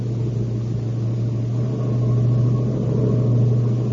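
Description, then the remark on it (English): A car engine drones steadily, a heavy low rumble that swells slightly louder in the second half as the car speeds at full throttle down a long mountain downgrade. No one speaks. “Gun it. Push it for all she's got. This is a long downgrade.”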